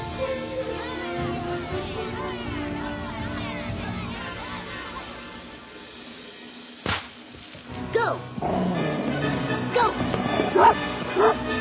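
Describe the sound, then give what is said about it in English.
Several dogs bark loudly and almost nonstop, yips and woofs overlapping amid a crowd-like din, then a brief lull before the frantic barking picks up again. “I just can't stand the barking anymore.”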